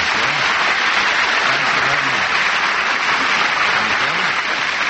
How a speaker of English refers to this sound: Say, that applause had a lot of life to it. Did you sense it as I walked on?